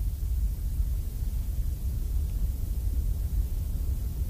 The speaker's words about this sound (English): And finally, the one that the SU1W sound therapy machine just calls white noise.